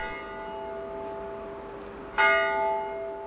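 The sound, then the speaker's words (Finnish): Bells of Turku Cathedral, beside the Aura River in Turku, Finland, ring with long, sustained metallic tones, a steady resonant hum, then a fresh loud strike at about two seconds brings bright overtones that slowly fade. No one speaks. “Me seisomme Turussa Aurajoen varrella, ja tässä on vieressä tuomiokirkko, ja sitten tuolla on talo, Prinkkalan talo, joka on suomalaisille tuttu jouluaattona näiden kellojen jälkeen.”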